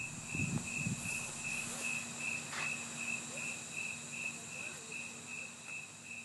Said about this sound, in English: I've got a long stretch of sounds of crickets that I recorded outside, and there's a reason I recorded it outside, but let's listen to it for a bit.